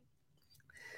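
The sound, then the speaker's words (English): A small sip of Russell's Reserve 10-year bourbon: faint wet mouth clicks, then a short airy slurp that swells near the end. Quiet, with no talking. “Take a little sip of my Russell's Reserve here.”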